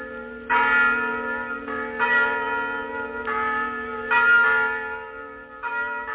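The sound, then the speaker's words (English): Church bells peal loudly and continuously, their strikes overlapping in a steady, ringing rhythm with sustained metallic tones hanging between each new clang. “trying to make himself understood over the peeding of the bells.”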